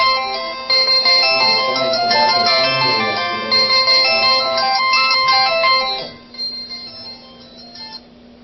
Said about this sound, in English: A phone.